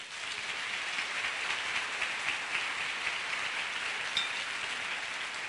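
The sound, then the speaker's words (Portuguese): A church audience applauds the Lord in a steady, dense wash of clapping that holds at an even level for about five seconds, with no voices over it. “Aplauda o Senhor.”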